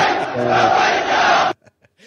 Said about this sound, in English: They're outside the Al-Aqsa Mosque cheering, yeah.